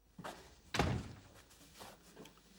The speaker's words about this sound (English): scurries to open the front door for her.